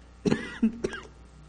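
A few abrupt coughs with a rough throat-clearing rasp, three short bursts spread across about a second, with no talking.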